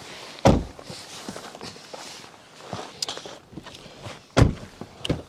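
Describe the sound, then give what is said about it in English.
Someone climbs into a Charger family sedan, a former police car: a heavy car door thunk near the start, rustling and shuffling movement, then another solid thunk near the end. Fairly loud, no talking. “Cole, why don't you hop in and we'll check out the front”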